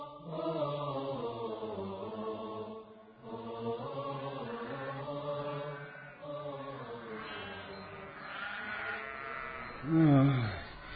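A flock of sheep bleats almost continuously, their wavering cries overlapping, with one louder bleat rising sharply near the end.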